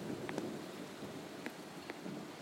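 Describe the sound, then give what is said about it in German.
Steady, fairly quiet rain hisses throughout, with a few sharp drips landing and a low rumble of thunder underneath. No voices are heard. “Und jetzt donnert es dazu.”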